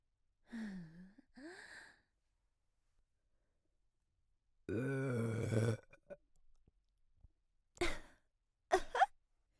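A long, loud, rumbling burp lasting about a second, set between soft breathy sighs before it and a few short sharp breaths afterward.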